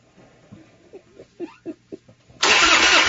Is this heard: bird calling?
no